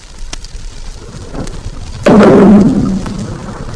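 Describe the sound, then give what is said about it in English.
A heavy metal submarine hatch slams shut with one loud, sudden clang that rings briefly with a low metallic resonance before fading, over a steady low rumble with a faint knock earlier. “Hatches being slammed shut.”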